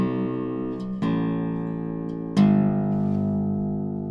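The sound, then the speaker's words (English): Three ringing notes on a very lightly strung Gibson guitar, sounded by hammering on by the sound hole near the bridge; each starts with a soft attack and sustains with rich overtones, the last a bit louder and lower, with no talking. “Okay, I'm hammering on those.”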